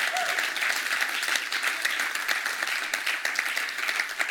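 An audience applauds steadily for several seconds, many hands clapping in a dense, even patter with no distinct individual claps and no voices standing out.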